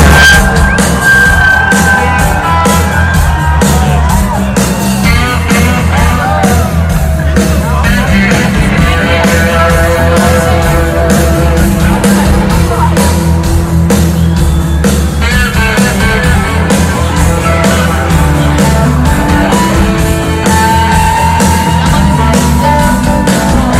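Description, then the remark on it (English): A large crowd sings along loudly at a concert, many voices blending into a sustained, rising and falling melody over a steady, thumping musical backing, with occasional shouts and whoops. “The crowd it starts to get pissed, and then the crowd gets into it, and it actually turns out to be like kind of a cool moment here, because the crowd just starts singing along.”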